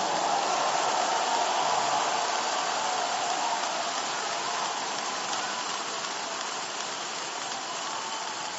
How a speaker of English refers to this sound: Another big thanksgiving clap offering, everyone.